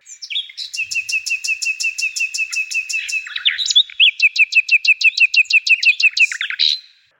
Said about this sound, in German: Also kämpfen gesanglich gegeneinander. Nachtigallen zum Beispiel. Die treten in direkten Sangeswettstreit und versuchen sich gegenseitig zu übertrumpfen.